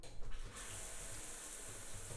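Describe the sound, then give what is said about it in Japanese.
A steady hiss of running water from a shower spraying, used to rinse someone's body, starts after a brief moment and continues evenly at moderate volume, with no voices. “シャワーでお体を流してあげるね。”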